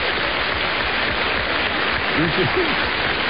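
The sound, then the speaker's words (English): A crowd applauds steadily, with McCain among those clapping, a dense wash of clapping that holds at an even level throughout, with a few brief voices or cheers rising out of it near the end. “Look at McCain clapping like a mad fool.”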